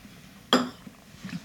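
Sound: sipping tea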